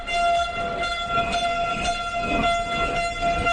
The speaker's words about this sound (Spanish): Y precisamente a las 11 de esta mañana nos encontramos pues con todo el griterío y con todo el ruido que ahora te voy a hacer que escuches.